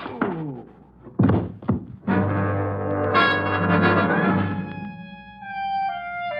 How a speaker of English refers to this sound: drops the barrel of his cannon across my head bone